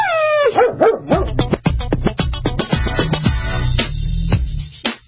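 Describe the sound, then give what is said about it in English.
A dog barks and yips repeatedly in quick, excited bursts, starting with a rising whine, loud, with no talking over it. “Sorry, my dog's messing with me.”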